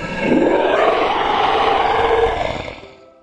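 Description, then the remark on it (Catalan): An angry wolf, woken by an owl, lets out a single loud, rough growl that swells and rumbles for about three seconds before trailing off, with no voices around it. “El mussol desperta el llop. El llop s'enfada.”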